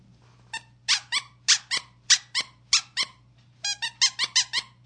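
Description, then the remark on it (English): A squeaky breast-shaped novelty toy is squeezed over and over, giving about a dozen sharp, high-pitched squeaks in quick uneven pairs, loud, with a faint steady hum underneath and no talking. “Listen to this. Wait. I got titties that squeak.”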